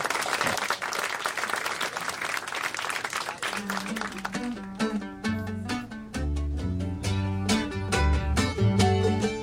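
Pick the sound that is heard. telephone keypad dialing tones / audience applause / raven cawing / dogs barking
audience applause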